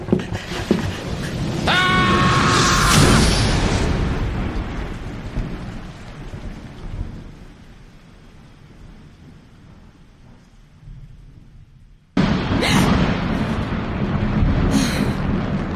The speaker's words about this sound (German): Das ist nur ein nahes Gewitter. Muss direkt über dem Wäldchen sein.